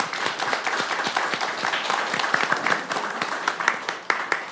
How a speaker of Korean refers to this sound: 어서 오세요. 큰 박수로 맞아주세요.